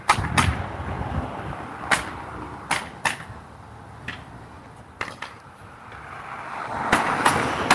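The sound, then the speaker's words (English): Sharp, percussive pneumatic roofing nail-gun shots from a crew working on a roof fire irregularly, some in quick pairs, about nine bursts over a steady low rumble of background noise, with no talking. Cold, windy day with wind from the north. “You can probably hear the hammer guns.”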